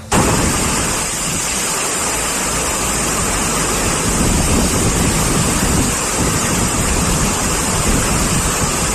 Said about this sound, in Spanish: Así llovía y eran acompañadas esas tormentas de fuertes rachas de viento, por ejemplo, en la Vall d'Uixó.